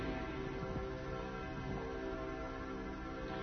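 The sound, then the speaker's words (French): Church bells peal continuously, their overlapping strikes blending into a dense, ringing wash at a steady level, with no voices present. “Elles sont aussi cette voix joyeuse de l'Église, heureuse d'annoncer à tous les hommes, à tous ceux qui entendent ces cloches, la bonne nouvelle du salut en Jésus-Christ.”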